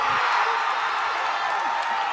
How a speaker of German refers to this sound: Die Jubelrufe, vor allem beim Tor der Australierinnen, sind durch den halben Park zu hören.